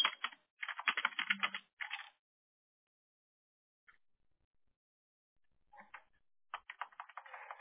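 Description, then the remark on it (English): Clear, rapid keystrokes clatter on a computer keyboard in two bursts of busy typing, separated by a few seconds of near silence with a couple of isolated taps. “They're typing.”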